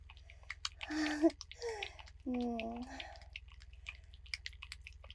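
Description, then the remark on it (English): Soft, wet squelching and irregular sticky clicks from a sex toy being used on a vagina, fairly quiet, continuing throughout. Moaning vocal sounds rise over them in the first half, then the wet clicks carry on alone. “Listen to what it does to my pussy.”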